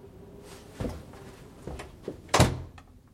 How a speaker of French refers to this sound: J'ai refermé la porte dans un geste sec.